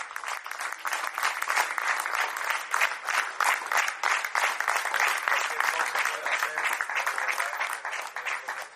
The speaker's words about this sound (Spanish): Y yo me quedo con este aplauso de su plantilla para despedir a Scariolo.